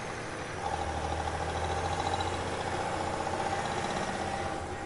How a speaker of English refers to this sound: As I was about to turn down another corner, I heard the unmistakable sound of an engine revving up behind me.